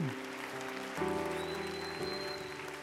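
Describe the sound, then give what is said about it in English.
Steady applause from a church audience for a young man, a dense crackling wash of clapping that keeps going throughout, mixed with sustained keyboard chords that shift to new notes about once a second. “Come on, keep that applause going.”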